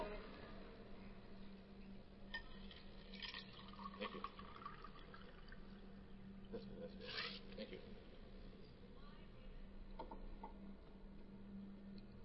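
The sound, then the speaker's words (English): Water is poured in a few short splashing bursts, the loudest near the middle, followed by quiet sipping sounds as it is drunk, over a steady low hum and faint background murmur. “I need some water, thanks. It's really dry, I'm sorry.”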